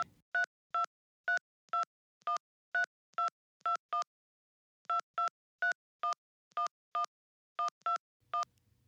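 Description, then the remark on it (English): Keypad tones as a man punches numbers on a keypad: two quick runs of about nine crisp, evenly spaced beeps, separated by a short pause, clear with no one talking, then a faint low hum. “He was punching the numbers on the keypad.”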